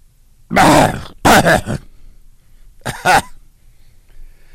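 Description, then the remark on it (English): A loud pair of harsh coughs, then a short pause and another quick double cough, with no talking around them. “Sometimes you got to cough and you have to double cough.”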